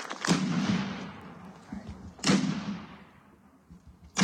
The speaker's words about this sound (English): A three-cannon salute from the New Ulm Battery helped honor World War II Medal of Honor recipient Willibald C. Bianchi.